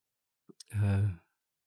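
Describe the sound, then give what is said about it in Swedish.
A single drawn-out yawn from a person, opening with a couple of soft mouth clicks and swelling into a long, voiced, breathy exhale that fades after about half a second. “Det är så tråkigt jag pratar om, så jag gäspar själv.”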